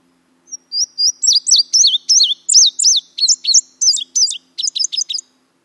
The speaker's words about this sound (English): Both the summer warbler and the indigo bunting just remind me of summer sounds with their very melodic and high-pitched songs. The indigo bunting says, fire, fire, where, here, here, put it out, put it out.